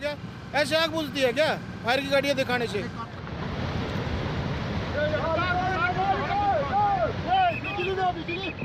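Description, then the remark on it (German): A raging river in northern Pakistan rushes with a steady, loud roar that swells after the first few seconds, while voices talk over it almost throughout. “Ein reißender Fluss im Norden Pakistans.”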